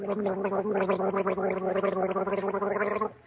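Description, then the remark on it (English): A voice gargles a warbling imitation of nightingale song, a steady bubbling tone with rapid trills running for about three seconds before cutting off. It is loud and alone, with no talk. “Oh, but I was making the same sound as the nightingale.”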